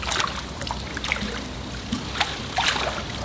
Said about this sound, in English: Inside the Ebisu Onsen in southwestern Japan, surrounded by lush forest, naked men soap up, scrub off, and wade into the volcanically heated 45-degree water for a long, hot, and relaxing soak.